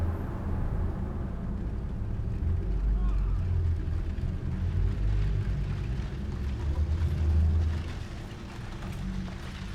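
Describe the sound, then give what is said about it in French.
A steady low rumble of buses carries in from a boulevard through an opened window, a continuous muffled drone of engines that swells slightly near the end before easing back. “Rumeur des bus venant du boulevard.”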